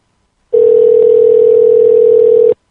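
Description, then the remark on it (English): A telephone line tone as a phone call is placed to Tiger Winkle to have someone paged: one steady, loud, mid-pitched hum that holds unchanged for about two seconds and then cuts off, with no voices. “All right, let's call. See if we can hear this.”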